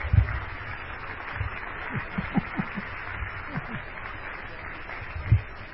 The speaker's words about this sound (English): Let's clap our hands for Jesus Christ.